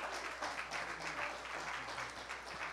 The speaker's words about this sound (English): Would you give the Lord a hand clap of praise tonight?